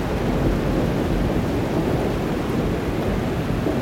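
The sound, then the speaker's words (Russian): Heavy rain pours steadily onto a deserted street, a dense, constant hiss with a deep rumbling undertone and no pauses. The downpour sounds loud, and no one speaks. “Он стоял совершенно неподвижно, ни на мгновение не отрывая взгляд от щедро поливаемой дождем безлюдной улицы.”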